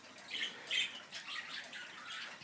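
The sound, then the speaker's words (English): Flash, a small female budgie, squawks in a rapid, uneven string of harsh, scratchy high-pitched chirps and chatters, fairly soft, with no voices over it. “This is Flash, little budgie bird.”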